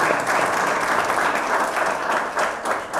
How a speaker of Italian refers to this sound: siete tutti, diciamo, formalmente eletti e anche accettati da parte di tutto il Consiglio Comunale, quindi direi che un applauso per tutti i consiglieri, è doveroso. È doveroso.